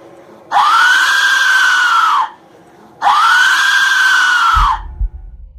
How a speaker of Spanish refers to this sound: Aquí les dejamos un breve fragmento de cómo se escucha uno de estos silbatos de terror.